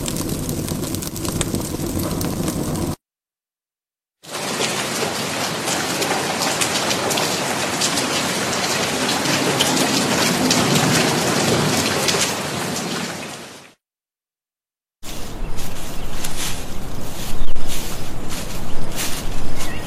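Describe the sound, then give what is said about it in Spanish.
Heavy rain pours during a thunderstorm in a dense, steady hiss, heard in three stretches separated by short silent breaks, loud throughout with no voices. “Como pudieron escuchar, los sonidos de la naturaleza como la lluvia, el viento, el fuego y la tormenta crean una experiencia única que nos conecta con el entorno.”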